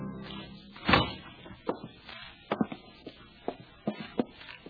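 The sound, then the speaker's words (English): The heavy walnut door of Zender Lodge is unbarred and opens with one loud, deep thud, then a run of sharp clunks and knocks as it moves. No voices are heard. “Zapt drew the bar and opened the heavy walnut door.”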